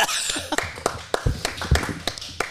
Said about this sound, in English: Clap for me, everyone.